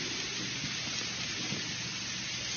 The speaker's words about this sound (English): And it came to pass in the meanwhile that the heaven was black with clouds and wind, and there was a great rain.